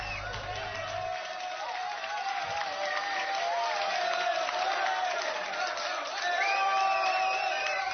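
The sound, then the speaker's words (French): Studio applause in the Radio Mandeléo studio, congratulating a coach, with cheering voices and whoops mixed in, a dense, steady roar of clapping and crowd noise that swells a little louder toward the end. “Voilà, les auditeurs ont suivi les applaudissements à partir de la maison.”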